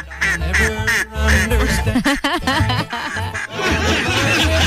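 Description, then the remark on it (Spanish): Hens cluck and squawk in short repeated bursts, mixed into a loud, busy music track that plays throughout, like a farmyard sound effect layered over a song. “Le faltan unas gallinas.”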